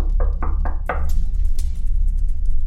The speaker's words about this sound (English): My psychoanalyst asked me if I knew why the chicken had crossed the road, and before I could answer, there was a knock on the door.